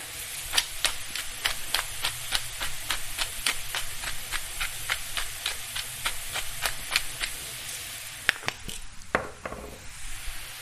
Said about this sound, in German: So, das brät jetzt nochmal so ein bisschen hier an in der Pfanne. Und dann kommt da Salz und Pfeffer oben drauf.